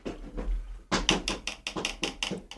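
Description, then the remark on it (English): A big bird tapping at a hotel room window at night: a burst of about nine sharp, hard taps in a quick, slightly uneven rhythm, preceded by a second of faint low rumble. “Yeah, it's a tapping sound from outside the window.”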